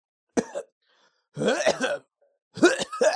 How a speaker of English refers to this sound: Sorry, just coughing.